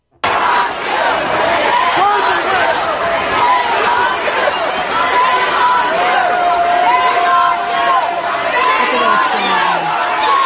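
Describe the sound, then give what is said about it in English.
A large audience at a town hall on gun control shouts and screams together in a loud, continuous roar, many overlapping voices rising in agitated yelling that never lets up, screaming "burn her, burn the witch." “Can you play the audio where the audience was screaming, burn her? Because this is from that town hall.”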